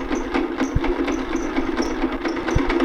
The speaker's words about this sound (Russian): Тургусунский бульдозер, есть такая установка, он уже начинает бить дорогу сюда. И вот так. Слушай, сейчас будут чистить дорогу.